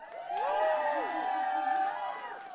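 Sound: audience applause and cheering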